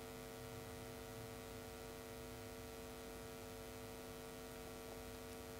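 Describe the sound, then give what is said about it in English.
A steady, faint electrical hum from the lights and AV equipment in a Dharma hall drones on without a break, a low buzzing tone with a soft hiss above it, in an otherwise very quiet hall. “Just the gentle hum of the lights, of the AV equipment.”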